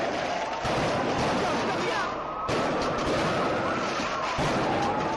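A loud, chaotic street riot between football fans on the esplanade of San Mamés and nearby streets, with police charging: a dense roar of crowd noise with a faint wailing siren threading through, and a few sharp bursts like rockets or flares going off.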